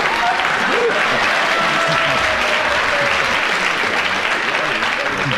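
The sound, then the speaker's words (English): An audience spontaneously breaks into sustained applause after a competitor brings up honour, a dense, steady wash of many hands clapping at full volume for several seconds, with faint voices mixed into the noise. “They clap spontaneously.”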